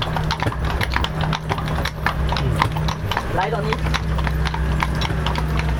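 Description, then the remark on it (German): Steady hooves of horses pulling carriages clip-clop on a hard road in a brisk, continuous rhythm, clear over a low rumbling background, while a person says a few words, as the carriages cross into the Czech Republic. “Könntet ihr das noch auf Tschechisch zu den Pferden sagen?”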